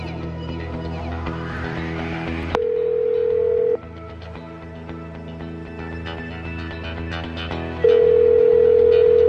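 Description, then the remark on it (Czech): A steady, loud telephone tone sounds twice, first for about a second and then again near the end, layered over a continuous background music bed with no talking. “Tady je telefon, na který můžete zavolat.”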